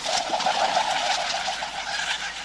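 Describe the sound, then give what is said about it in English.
A kereru, a New Zealand pigeon, gives a soft, steady, low cooing call, heard alone against a hissy outdoor background with no one talking. “In 2018, the citizens of New Zealand voted the Kereru as Bird of the Year.”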